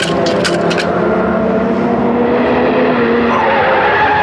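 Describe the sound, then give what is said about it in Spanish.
A car skids dangerously during a fast downhill descent after being forced into its lowest gear, smoke rising from beneath it, with loud, sustained tire screeching, the shrill squeal sliding in pitch over several seconds alongside a roaring engine, intense with no voices. “Y el auto derrapa peligrosamente, al tiempo que empieza a surgir humo por debajo de la máquina.”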